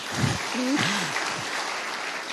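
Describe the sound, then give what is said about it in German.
A crowd claps steadily for the guests, a dense wash of hands filling the whole stretch, with a brief voice or cheer rising near the start. “Ja, mal Hand hoch und ja, Applaus für unsere Gäste.”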